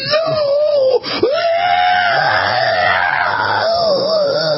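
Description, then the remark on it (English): Loud men's voices squealing and wailing almost nonstop as they are beaten in a fight, the pitch wobbling up and down, with lower yelling layered underneath and one brief break near the start. “They attack and then they squeal and yell like babies when they're getting their asses beat. I didn't know men could make noises like that.”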